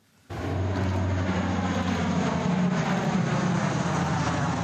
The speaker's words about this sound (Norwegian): Et fly fyker over de grønne steppene i Den sentralafrikanske republikk, og ut fra flyet kommer tunge sekker dalende.